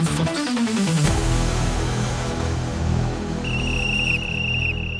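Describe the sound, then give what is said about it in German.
A shrill whistle is blown in one sustained, steady blast near the end, cutting through a loud, dense wash of background noise that fills the whole recording. “Da ist sie, die Pfeife.”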